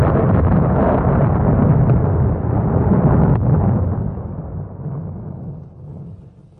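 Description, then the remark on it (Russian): A deafening clap of thunder, coming with a bright flash of lightning, hits at full force, then rolls on as a deep, heavy rumble that slowly fades over several seconds, with no voices. “Оглушительный раскат грома заставил всех вскочить на ноги, и миссис Эмни лишилась чувств.”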